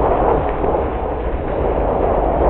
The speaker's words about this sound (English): Outside a storm is raging.